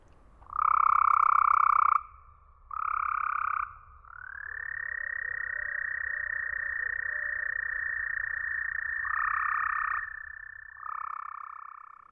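A chorus of toads trilling, recorded at night in springtime in a pioneer cemetery in a forest in Tennessee, equalized to simulate what toads hear; loud, with long steady buzzing trills overlapping and starting and stopping over a faint low background hum, filtered so the midrange calls stand out.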